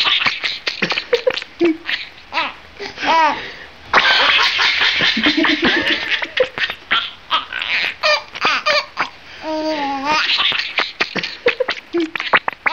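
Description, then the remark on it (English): Rapid, excited chirping from a tickled rat: dense bursts of short, high squeaks and rising-falling trills, loud and nearly continuous, broken by a few brief pauses, with no talking. “when you see him tickle the rat and the rat kick its little rat legs and chirp like mad, it does look like the animal's cracking up.”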